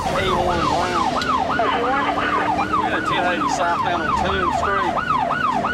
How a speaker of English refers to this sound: Seconds later, the late night quiet is shattered by the sound of police sirens.